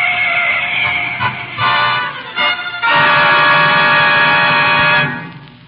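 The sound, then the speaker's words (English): An approaching car sounds a loud, blaring horn that honks several times in short bursts, then holds one long sustained blast for about two seconds before cutting off. No voices. “There's a car coming. For God's sake, look out!”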